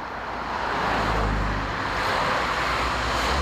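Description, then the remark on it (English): A steady, dense roar of cars crossing a bridge over the Rhine River between Kiel, Germany, and Strasbourg, France, with low engine rumble and tyre hiss blending into one continuous wash of traffic noise and no voices. “On weekdays, around 20,000 cars use this bridge over the Rhine River to commute between Kiel in Germany and Strasbourg in France, and even more cars travel on weekends.”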